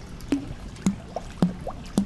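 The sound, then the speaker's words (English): A female diamondback terrapin splashes water at the edge of her aquarium exhibit while looking for her food, in four quick, evenly spaced slaps and plops, each with a short hollow bloop after it. The splashes stand alone against a faint background hiss, with no voices. “She's kind of splashing at the edge of the exhibit, looking for her food.”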